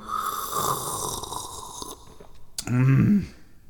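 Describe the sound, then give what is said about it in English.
A long, wet slurping sip of gingermay lasts a couple of seconds, fairly loud, followed by a brief gulp and a short, satisfied voiced exhale. “One more sip.”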